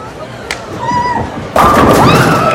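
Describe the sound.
A bowling ball, rolled by a young woman at a bowling alley in the evening, rumbles low and steady down the lane after a sharp knock, then a sudden loud, noisy clatter bursts in and carries on, with faint voices and chatter underneath.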